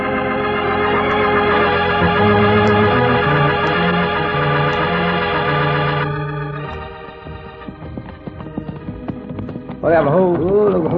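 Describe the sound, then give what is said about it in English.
Cisco and Pancho's horses clip-clop in a steady trotting rhythm beneath loud orchestral music as they ride near a bandit camp on a clear moonlit night, growing clearer midway before a voice cuts in at the end. “Leave our horses here, Pancho.”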